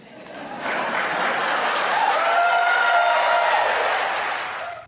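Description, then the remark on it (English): A crowd breaks into steady applause after a presidential candidate answers "I do" when asked about a plan to deal with Mitch McConnell; it swells quickly and holds for several seconds at a strong, even level, with a few cheering voices mixed in, before cutting off abruptly. “That was her answer. I do. And then they applaud.”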